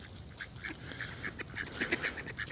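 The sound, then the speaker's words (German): Several ducks approaching a person quack in quick, irregular bursts, a busy chorus of nasal calls growing livelier toward the end over faint outdoor background noise. “Und ich mein Gott, da kommen Enten auf mich zu.”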